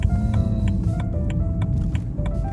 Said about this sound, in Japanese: いやー、しかしやっぱいいですね。車の運転は結構好きだな。特に真夜中はねいいですね。本当に走りやすい。昼間はやっぱ混むでしょ、渋滞するしね。夜中だな、ミッドナイトだね。